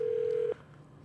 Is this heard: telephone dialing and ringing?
yes